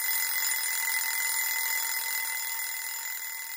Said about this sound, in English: The alarm clock was a merciless reminder to the sleeping children wrapped in their warm duvets that it was time to get up.